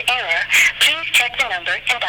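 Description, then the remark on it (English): A voice imitates a telephone dial tone, producing a quick run of loud, warbling, pitch-sliding vocal bursts with no ordinary talking. “Dial tone. Give me a dial tone.”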